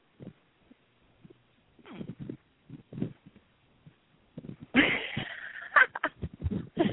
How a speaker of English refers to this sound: Are you actually breathing? You're breathing.